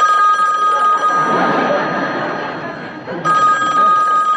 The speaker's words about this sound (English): He just feels that if you make an even mildly controversial remark on television, your phone will start ringing off the hook.